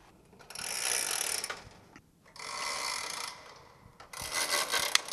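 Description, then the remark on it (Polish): An antique clock with an alarm function, from a collection in a church, whirs into motion in three bursts of dense, raspy mechanical rattling. Each burst lasts about a second and is fairly loud, with brief pauses between them and no voices. “Zaraz tutaj może któryś nam się uda uruchomić, żeby było słychać.”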